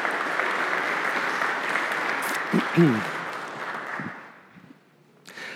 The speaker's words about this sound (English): You guys, give them a round of applause again as they take their seats.